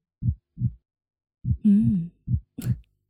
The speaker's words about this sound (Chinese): 把小薇紧紧地抱在怀里，听着我的心跳声在小薇的耳边扑通扑通地跳着，是不是很有安全感呢？